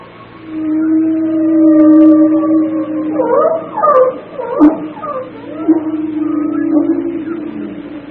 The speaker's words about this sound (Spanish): Las ballenas hablan. Se comunican con una combinación de sonidos puros y locaciones ecosonares.